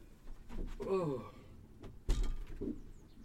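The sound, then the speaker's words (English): Side doors beside a canal open with a sliding rumble and a sharp clunk about two-thirds through, after a brief voice sound earlier on. “There we go, opening up the side doors.”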